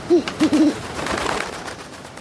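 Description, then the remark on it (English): An owl hoots in a quick series of soft, low calls: one, then a short pause and a rapid cluster of three, followed by faint background noise. “is that you? It is I. The owl?”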